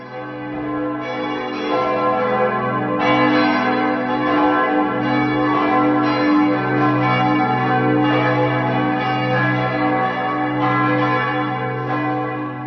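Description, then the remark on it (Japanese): The bells of Saint-Pierre Cathedral in Geneva, Switzerland, where Calvin was pastor, ring continuously in a rich, layered peal, deep sustained tones overlapping with fresh strikes every second or two, loud and resonant with no voices present. “これは、実はカルヴァンが牧会していた、サンピエル大聖堂ってジュネーブにあるんですけども、その教会の鐘の音なんです。”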